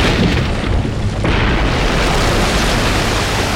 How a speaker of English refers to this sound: Then the battleship vaporized in a white-hot flash. A pillar of fire and steam shot high into the air.